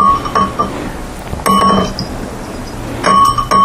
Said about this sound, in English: He wears a little bell around his neck, so that, you know, we know where he's at.